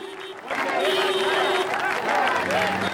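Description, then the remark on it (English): A dense adoring crowd roars and claps, greeting Saddam as he steps out into bright sunlight while television crews film him; a steady wash of cheering and applause with excited voices rising and falling through the din. “A pair of tall double doors are open from inside, and Saddam steps out into bright sunlight, where an adoring crowd greets him and television crews film him.”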